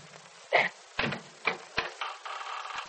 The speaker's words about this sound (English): The door opens. Yeah, I know. I saw it.